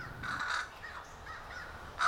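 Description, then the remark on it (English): A crow caws several times in harsh, raspy bursts, with a louder, sharper caw cutting in right at the end. No voices are heard. “All in a day's work, raising the next crow generation. Caw, caw, caw.”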